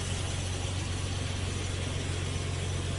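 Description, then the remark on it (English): A car engine idles steadily, a constant low rumble with a faint mechanical rattle layered over it, unbroken for the whole stretch with no voices. “Turn the car off!”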